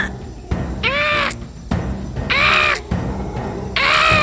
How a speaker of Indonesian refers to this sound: Sesaat kemudian terdengar suara burung menanggapi suara ibu.